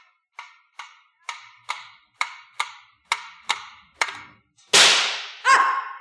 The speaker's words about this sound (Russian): Мимо. Ружье подпрыгнуло у меня в руках так, будто хотело хлопнуть меня по носу.